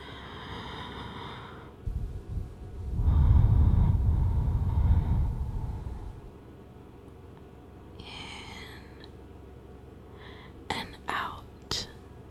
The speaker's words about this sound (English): And now, I just want you to close your eyes and focus on my breathing. And breathe with me, honey.